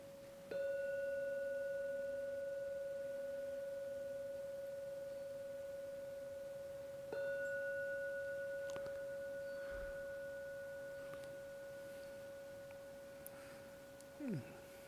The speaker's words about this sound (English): Gong 3 times. To come out from the meditation.